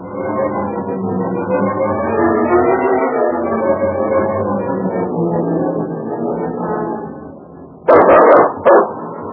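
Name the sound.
dog barking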